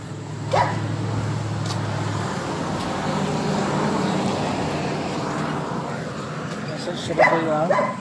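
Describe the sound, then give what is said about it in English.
A dog barks in short, sharp bursts, once early and again in a quick cluster near the end, over a steady rumble of road traffic and faint, indistinct voices. “We were spinning and then we got a dog barking at us.”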